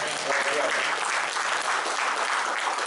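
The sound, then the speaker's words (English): An audience claps for the Lord after a prayer in the name of Jesus, steady, dense applause that holds at an even loudness for the whole stretch, with faint voices mixed into the sound of many hands. “Give Lord another hand clap.”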